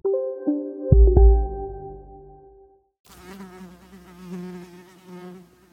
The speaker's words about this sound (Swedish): Vid ett tillfälle får de utmana sina rädslor genom att gå fram till ilskna bin.